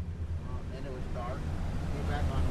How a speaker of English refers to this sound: It's 7 a.m. on a Tuesday morning, and a boat named Fishing Fool 4 pulls out of a private dock in the town of Isleton. It's loaded with poles and bait and four avid fishermen.